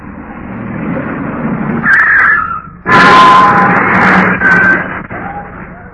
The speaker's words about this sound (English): I think this is their car now, sir.